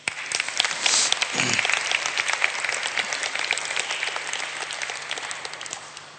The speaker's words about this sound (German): Gott ist groß, Amen. Gibt unserem Herrn mal einen riesigen Applaus.